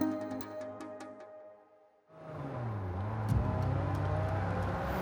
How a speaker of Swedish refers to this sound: En rad bilar rusar fram längs en lerig väg på ön Luzon i Filippinerna. Däcken sladdar på den mjuka marken och motorerna pressas till sitt yttersta. Det är bråttom, riktigt bråttom.